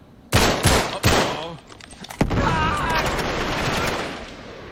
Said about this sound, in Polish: Dobra, skąd były te strzały? Z góry były?